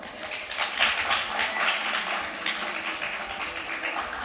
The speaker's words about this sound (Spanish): Por favor, un aplauso.